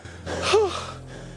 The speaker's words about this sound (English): The lads lie side by side, breathing heavily.